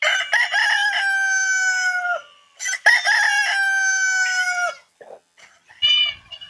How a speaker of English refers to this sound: Just rooster.